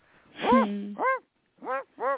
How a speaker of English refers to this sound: And there's the dog now. We got a dog.